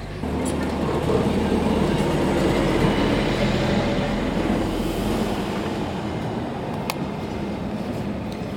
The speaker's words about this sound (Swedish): Men det går inte riktigt, för här kom precis förbi en buss och det är en av anledningarna till det.